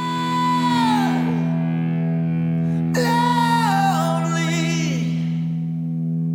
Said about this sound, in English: There you can hear those kick drums. Hammond organ. Slowly bringing up the reverb on the vocal here.